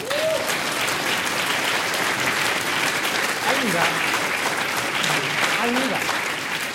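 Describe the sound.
A crowd applauds steadily for several seconds after an explanation of a sealed container exploding, a dense, even patter of clapping with a few faint voices and whoops rising through it.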